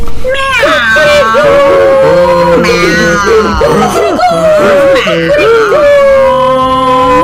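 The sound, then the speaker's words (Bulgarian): Voices imitate a loud, overlapping chorus of animal cries (donkey braying, dog barking, cat meowing and rooster crowing) as wavering, howl-like wails held steadily for several seconds, continuous. “Магарето заревало, кучето залаяло, котаракът замялкал и петелът закукуригал.”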